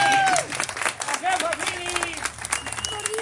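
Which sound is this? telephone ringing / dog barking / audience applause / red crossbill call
audience applause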